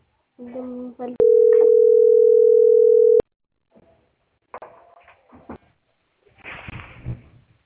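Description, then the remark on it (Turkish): A loud, steady telephone line tone holds for about two seconds, cutting in abruptly after brief talking, then stopping sharply; people speak again afterward. “telefon kaydettin aslında.”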